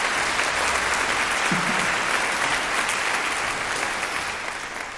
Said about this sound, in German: Das ist natürlich, ja, man traut sich kaum zu klatschen.